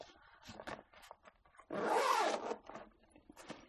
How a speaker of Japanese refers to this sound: 横持ち状態でベルト、手持ちベルトを握った状態でパソコンルームのファスナーの開け閉めは簡単にできる。干渉しないようになってるから。